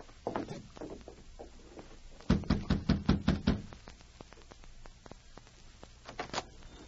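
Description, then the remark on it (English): A firm series of about six rapid knocks on a door rings out, preceded and followed by softer, scattered taps and shuffling; no one speaks. “Hey, you knock on the door.”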